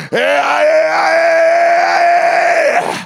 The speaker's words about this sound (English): I don't know if this is appropriate, but I'm going to try. Come on, go ahead and yell out in the Holy Ghost.